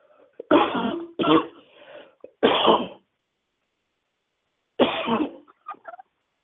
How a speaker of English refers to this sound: I feel a cough coming on. Forgive me. Excuse me for a moment.